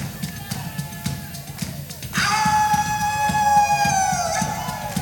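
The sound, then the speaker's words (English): After a couple of seconds of murmuring background noise, a single voice bursts into a loud, high-pitched rebel yell, a whooping cry as done in Virginia, sustained and wavering and sliding in pitch for several seconds. “That's called a rebel yell.”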